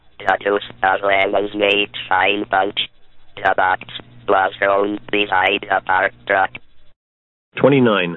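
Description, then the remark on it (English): A Votrax Type 'N Talk speech synthesizer voice, an inexpensive system by Richard Gagnon from 1978, reads a couple of sentences in a buzzy, robotic tone, with brief pauses between phrases and a longer gap near the end before it resumes. “The Inexpensive Votrax Type and Talk System by Richard Gagnon, 1978.”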